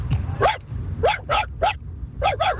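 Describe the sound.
A human voice imitates a dog barking: six short, sharp yaps in uneven bursts, fairly loud, over a steady low rumble in the background.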